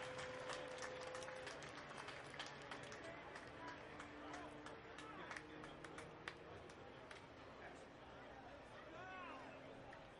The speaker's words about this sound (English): You heard the ovation from the crowd here at Trenton Thunder Ballpark.